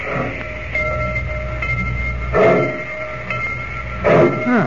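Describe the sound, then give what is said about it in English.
A train pulling out of the station at Rocky Point rumbles steadily with sustained whistle-like tones humming above it, while two short bursts of dog barking cut through partway along. No voices are heard. “I've gotten off trains before”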